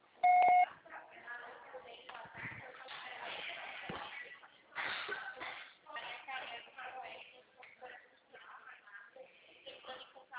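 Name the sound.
voicemail recording tone beep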